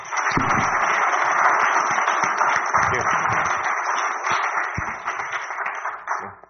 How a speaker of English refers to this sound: Let's keep the clapping going